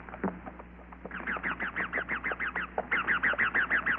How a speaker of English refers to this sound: Overhead, wild parrots screeched.